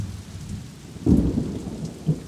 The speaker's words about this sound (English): At night, the rain continued and there was a bad storm.